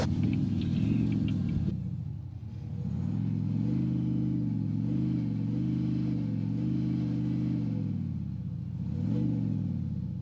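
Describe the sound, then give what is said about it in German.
A car engine hums and revs steadily, its pitch rising and falling as the vehicle speeds up and slows through turns while driving a first lap around a driver-training track, with no one speaking. “Als allererstes fahren wir einmal durch, dass ihr mal wisst, wo wir fahren.”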